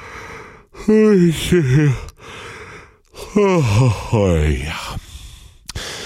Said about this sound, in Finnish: Tämän päivän ensimmäinen äänenavausharjoitus on helppo. Haukottelemme.